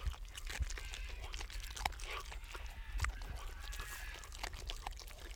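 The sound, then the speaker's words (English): Luna, a ten-week-old sandy-colored wolf pup descended from a wild Alaska pack, chews on a small vole at the center, with wet crunching and gnawing sounds repeating irregularly over a low, steady background rumble. “Ten-week-old Luna, a wolf pup descended from a wild Alaska pack, is chewing on a small vole.”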